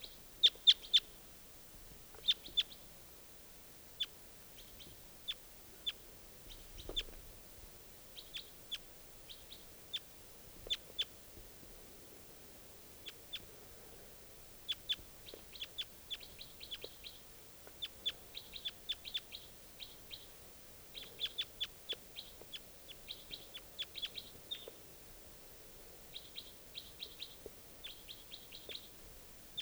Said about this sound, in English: And the wild birds are calling. Stop. Wild bird.